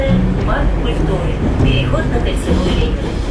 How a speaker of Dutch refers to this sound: Het is een erg efficiënt netwerk. Het wordt gerund door de staat. Het is een strategisch object. Dus ja, iedere paar seconden komt er een reeks wagons voorbij gedenderd.